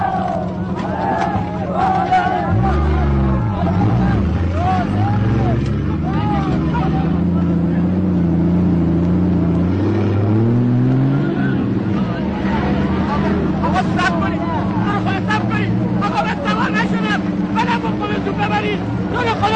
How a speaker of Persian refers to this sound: ماشینا میان و سربازا در فضای باز پشت ماشینا سوار میشه.